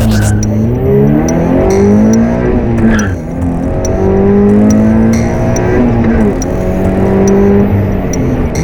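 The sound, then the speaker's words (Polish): Several Toyota GT86 and Subaru BRZ racing cars roar past at the Tor Łódź racetrack near Stryków, Poland, engines revving and shifting pitch as they accelerate, with tires squealing now and then over a continuous loud motor drone. “Największe w Europie zawody samochodów Toyota GT86 i Subaru BRZ zawitają na tor Łódź pod Strykowem.”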